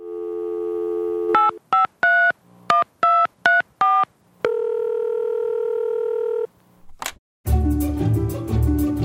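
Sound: telephone keypad dialing tones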